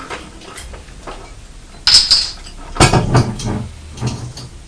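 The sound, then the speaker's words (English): A sealed bottle of blackcurrant juice being opened: a squeaky twist of the cap, then a sharp crack as the seal on the top breaks, followed by a few plastic rattles and scrapes. No one speaks. “Oh, gosh, that was hard to open the bottle. The juice had a seal on the top and it was hard to break.”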